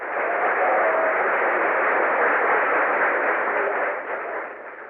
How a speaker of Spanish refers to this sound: El aplauso es fuerte y potente.